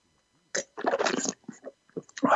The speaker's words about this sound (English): I'm really enjoying the Olivarinha from Douro. I'll have another sip here.